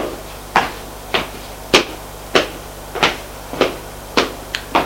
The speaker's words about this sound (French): Frappe à la porte. Entrez.